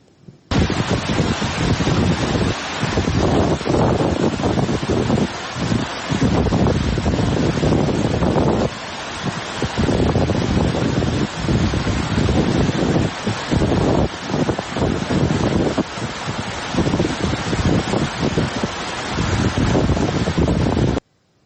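Rushing floodwater pours over the road from Nimruz to Hirmand in northern Sistan, submerging it, while strong wind buffets the microphone: a loud, continuous roar with gusty surges throughout and no voices.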